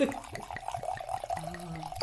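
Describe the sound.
Wine glugs from a bottle into a glass, a quick steady run of rising gurgles lasting a couple of seconds, with a faint voice briefly in the background.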